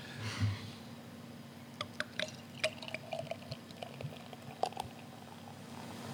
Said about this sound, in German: Hört man als Brauerin schon, wenn man einschenkt, ob das ein besonders gutes oder ein besonders schlechtes Bier ist? Ich sag mal so, wenn Bröckchen mitfallen, dann hört man es und dann ist es meist nicht gut.